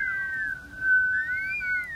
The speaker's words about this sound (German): Plötzlich fing auch der Wind an zu pfeifen.